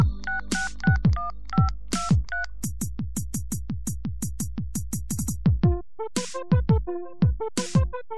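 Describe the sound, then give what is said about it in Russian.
A run of short telephone keypad tones as a number is dialed, beeping in quick succession over a thumping electronic beat with booming bass drops, then a pause and a few more tones. “Не звонить, не думать, ничего не говорить, а рука на память, номер начинает телефон водить.”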